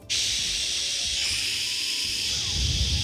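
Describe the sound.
A voice makes a steady, airy hissing sound with the mouth, imitating rushing hot and cold water with no real water present. It is sustained for about three seconds with a slight shift in tone midway and low breathy rumbles underneath.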